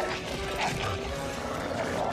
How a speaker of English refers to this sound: A pack of sneering, snarling wolves emerge from behind the trees and encircle them.